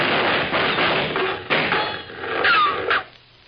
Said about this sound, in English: Whoa! You hear him, that Red Rider? Sound a little like shots to me.